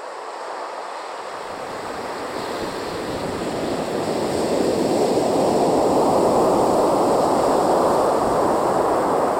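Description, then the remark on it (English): Waves wash steadily onto the little beach at Dunaha, a broad hiss of surf that swells louder after the first few seconds and keeps rolling, with some wind noise and no voices. “The little beach at Dunaha.”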